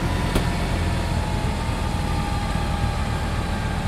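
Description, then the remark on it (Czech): A snow-clearing tractor's engine runs steadily as it mills away snow, a continuous low rumble with a faint whine above it and one brief sharp tick early on; no one speaks. “A je větší odpor, ale nejde se do toho ledu a prostě nedochází k ničení toho traktoru.”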